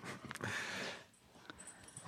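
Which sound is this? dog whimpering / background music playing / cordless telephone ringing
dog whimpering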